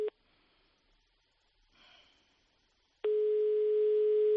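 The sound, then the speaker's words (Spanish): A steady telephone line tone while calling a new Agroseguro phone number: a brief beep, a pause with a soft breath or rustle, then a long continuous tone that holds loud and even until the end. “Bueno, pues vamos a llamar a ese nuevo teléfono, que esta vez sí que cuesta.”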